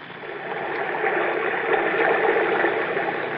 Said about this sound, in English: When I press my ear against the wall, I can hear the water running like it was a river under the ground.